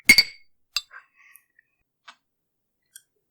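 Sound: glasses clinking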